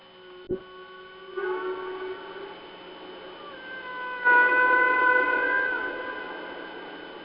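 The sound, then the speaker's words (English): Whale song: long, drawn-out tonal moans with rich overtones that slowly rise and bend, swelling louder partway through, with a single sharp click near the start and no talking. “We welcome the whales.”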